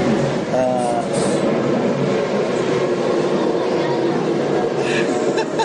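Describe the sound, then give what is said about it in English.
A car is dragged along by a tow truck, making a loud, steady grinding rumble with a brief squeal near the start and a hissing scrape that continues without pause. “We got a car about to get towed.”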